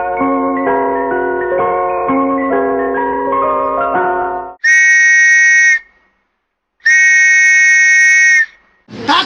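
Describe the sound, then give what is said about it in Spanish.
A knife sharpener's panpipe whistle runs quickly through a rippling scale of reedy notes, then two long, loud, steady shrill tones sound with a short gap between them. “Afilador.”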